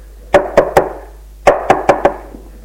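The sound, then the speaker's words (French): Loud, firm knocking on a door in two bursts: three quick raps, a short pause, then four more, each hit sharp and resonant, with no voices. “Il n'y fait pas attention, mais on frappe plus fort.”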